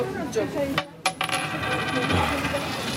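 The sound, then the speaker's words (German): A coin is flipped to choose between a meat and a vegetarian meal. It clinks sharply as it hits a hard floor, then rattles and spins with rapid metallic ringing that gradually settles, with no voices. “Wenn jetzt die Zahl kommt, esse ich den vegetarischen. Okay, gut. Liegt auf dem Boden, zählt nicht.”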